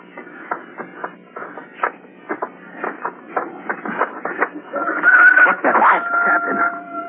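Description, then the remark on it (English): Crunching, shuffling steps tap along for several seconds, then a rooster crows, a drawn-out, fairly loud call that holds steady through the final seconds. “I could swear that sound like a rooster.”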